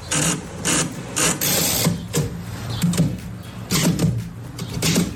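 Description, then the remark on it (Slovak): A manual typewriter clacks in irregular bursts of sharp keystrokes, with short pauses between clusters and a faint mechanical rattle, loud and with no voices. “Písací stroj, na ktorom píšem ja.”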